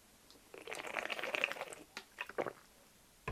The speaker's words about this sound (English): Just going to have a sip of water.